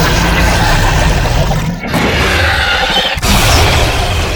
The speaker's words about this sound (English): The Big Scream is a versatile CD for actors and your props. Clowns. Blood-curdling screams. Dinosaurs.